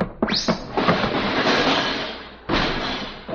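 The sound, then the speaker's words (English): A department store's revolving door in motion: a couple of thumps at the start, then a steady rushing whoosh that briefly cuts off and resumes. There are no voices. “I guess I'll go through the revolving door.”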